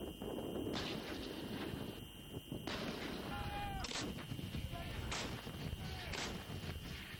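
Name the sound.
artillery fire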